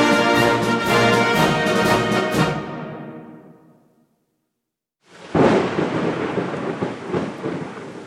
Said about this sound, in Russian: Смолкли птичьи голоса, майский гром грохочет. Это первая гроза напугать нас хочет.